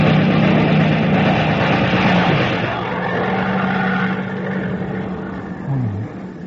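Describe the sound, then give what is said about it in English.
A loud, steady enemy propeller-plane engine drones with a low hum over dense rumbling noise, then its pitch sweeps downward briefly near the end as the roar eases off. “It's not our plane. It's theirs.”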